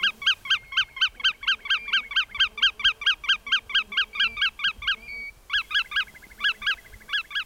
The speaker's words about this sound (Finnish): Monella suolla menneenä kesänä huuteli punakuiri koiraita. Naaraat ovat jättäneet ne vahtimaan poikasiaan.